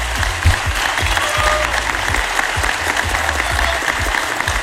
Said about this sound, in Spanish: Quiero pedirles, si se puede, que podamos darle un aplauso a todos los docentes de música de nuestro país.